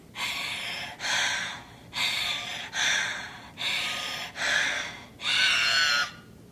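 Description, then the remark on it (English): Heavy, gasping breaths, seven harsh rasping inhales and exhales in quick succession, loud, with a steady labored rhythm and no talking. “And I was breathing gaspingly too.”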